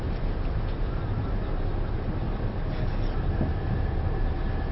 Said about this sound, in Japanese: まもなく鉄橋に差し掛かりますので放送を一旦中断させていただきます。ご了承ください。